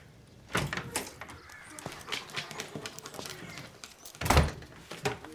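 A front door of a house opens with a few clunks and rattles as someone enters the house, followed by quiet shuffling, then swings shut with a solid, heavy thud near the end.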